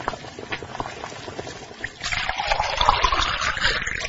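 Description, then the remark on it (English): Boiling water bubbles and trickles softly, then a steady, louder pour splashes onto instant noodles in a container for the last couple of seconds, with no talking. “When the water is boiling, add the water to the noodles.”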